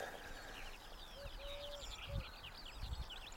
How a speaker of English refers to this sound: But I've got wood pigeons behind me, and a riot of skylarks in front of me.